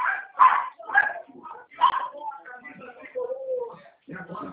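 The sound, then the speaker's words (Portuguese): A female dog barks in a rapid, irregular string of loud yaps, with higher yips and whiny, drawn-out sounds between the bursts. “Oi, não estou ouvindo, foi a cachorra toda aqui.”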